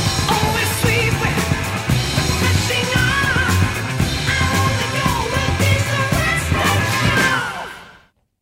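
Loud, dense rock music with a driving beat and a high, wailing vocal line sliding over distorted guitars, running steadily for several seconds before fading out quickly at the end.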